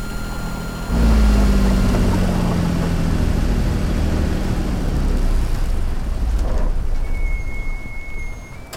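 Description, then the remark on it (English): A boat engine rumbles loudly after a brief moment, a steady drone, and near the end a faint, thin high whine, new to the engine, rises above it for about a second. “I think I can just barely detect a faint whine in the engine that wasn't there before.”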